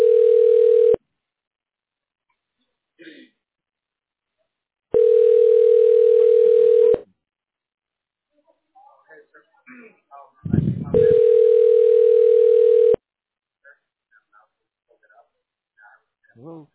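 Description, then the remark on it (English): A phone's ringback tone pulses steadily while calling back a tax relief service: three long two-second tones with pauses between, loud, while faint voices murmur quietly in the gaps. “Yes, my phone is dialing right now.”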